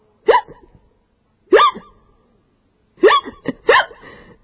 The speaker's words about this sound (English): Baby, you've got the hiccups.